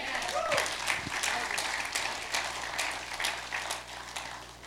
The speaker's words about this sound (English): Good morning, everybody. How about we give a big, huge round of applause for our amazing worship team?